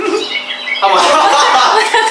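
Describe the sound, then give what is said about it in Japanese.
A bird chirps and calls in a quick, busy run of bright tweets, starting softer and growing fuller and louder after a moment, clear with no one speaking. “困ったら鳥が鳴きます。 鳥が滑ると鳥が鳴きます。”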